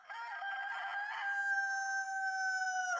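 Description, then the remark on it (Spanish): A rooster crows very far away at dawn in one long drawn-out call, starting with a few choppy notes and then holding a steady, slightly falling cry for about three seconds, heard alone without talking. “Lo que sí se oyó, muy a lo lejos, fue un canto de gallo que para algunos de nosotros”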